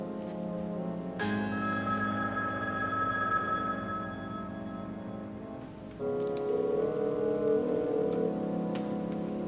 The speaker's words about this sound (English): Answer the phone!